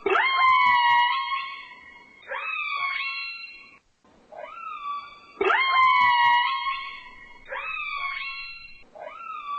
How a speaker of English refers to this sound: Here's an orca whale.